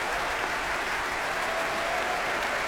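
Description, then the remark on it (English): Sustained, dense applause from the orchestra at a concert, mixed with the light rattle of string players tapping their bows, steady and fairly loud throughout with no voices. “Applause from the orchestra, the strings tapping their bows as well.”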